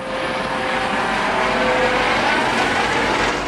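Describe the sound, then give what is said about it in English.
A steady, loud helicopter engine drone holds constant throughout, with a broad whooshing roar and a faint tonal whine, as the cutter Alex Haley's helicopter hovers to drop an emergency tow package onto the freighter Sea Trader during a drill in Unalaska Bay. No one speaks. “It's a tight fit, but the helicopter sticks the delivery.”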